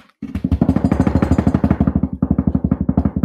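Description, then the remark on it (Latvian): A loud, steady drum roll of rapid, evenly spaced strikes, played before a giveaway winner is announced, begins abruptly after a brief silence and rolls on without letup for about three seconds, with no talking over it. “Bungu rīboņu lūdzu.”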